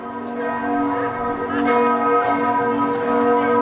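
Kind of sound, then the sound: ambience, church bells ringing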